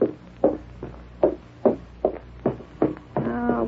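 A steady series of about eight firm, evenly spaced knocks on a door by a man from the welfare board, followed by a brief humming tone at the end.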